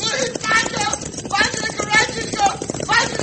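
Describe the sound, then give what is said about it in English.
Rapid, thundering hoofbeats of galloping horses amid a dense, loud cattle stampede rumble, with voices shouting over the steady, driving pounding. “Oh, he has fallen from his horse. Right in front of that stampede.”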